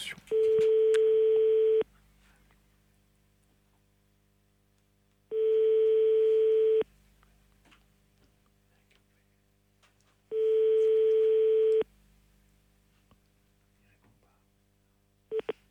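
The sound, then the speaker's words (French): A telephone ringback tone rings out three times, each steady, mid-pitched buzzing tone lasting about a second and a half, separated by long silent pauses as the call goes unanswered and reaches voicemail. “Vous êtes bien sur le répondeur. C'est pas possible. Bon, on les rappellera plus tard.”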